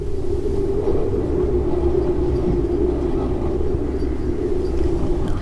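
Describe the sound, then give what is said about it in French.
Ambient sound aboard the moored boat Heart of Gold: a steady, unbroken low rumble with a droning hum, holding an even loudness throughout, with no voices. “On va écouter un petit peu l'ambiance sonore sur le bateau.”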